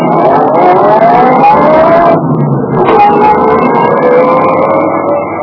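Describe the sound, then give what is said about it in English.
A car engine roars as it pulls away, its pitch climbing, dipping briefly as if shifting gear, then revving steadily on. No voices are heard. “Then I staggered over to my car, got in, and drove off.”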